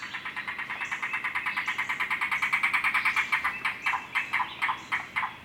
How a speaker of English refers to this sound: Unfortunately, over much of this bird's wide range, the voice of the yellow-billed cuckoo is heard less and less frequently.